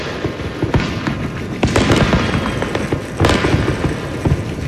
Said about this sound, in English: If you were up at midnight to celebrate the new year, you probably heard all the booms from illegal fireworks across Sonoma County.